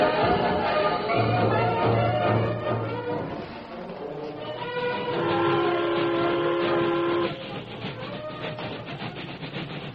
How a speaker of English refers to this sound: The local freight train from Buffalo Junction had traveled half the distance to Sycamore Bend, and yet Curly Tatum and Gus Dexter were still sandwiched in between the last two cars.